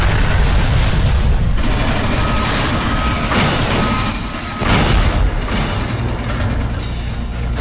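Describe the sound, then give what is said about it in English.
A heavy, continuous roar of unstable cliffs surrounding Valparaiso collapsing in an earthquake and taking many buildings with them, with deep rumbling and crashing debris that surges in loud bursts midway through, all without any voices. “Unstable areas of the cliffs surrounding Valparaiso collapse, taking many buildings with them.”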